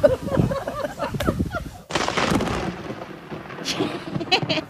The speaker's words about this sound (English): Lightning literally strikes, touches the ground. Lightning strikes. Take a listen.